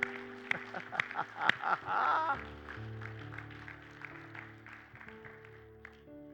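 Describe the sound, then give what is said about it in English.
An audience claps hands in praise of Jesus, with scattered sharp claps and some cheering voices in the first couple of seconds, over steady sustained organ or keyboard chords that continue after the clapping fades. “Can somebody give Jesus a hand clap of praise?”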